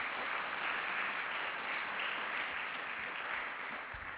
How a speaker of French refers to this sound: En tout cas, je voudrais lui dire un grand merci ce soir pour ce qu'il nous a apporté. On peut l'applaudir et vous applaudir aussi.